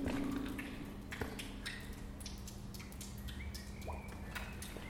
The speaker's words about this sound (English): So, just a quick short diary entry with some echo from Edgbaston Tunnel in the Edgbaston area of Birmingham. The water dripping from the ceiling.